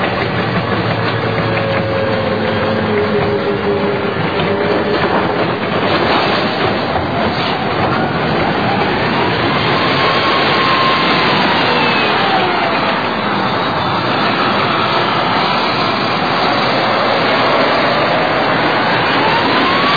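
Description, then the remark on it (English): A United States Army tank rumbles and clanks as it crushes a taxi taken from looters, metal crunching and squealing beneath it, a loud, continuous grinding with sharp bursts of crushing partway through and no voices. “We try to stop them from looting, they don't understand, so we'll take their car and we'll crush it.”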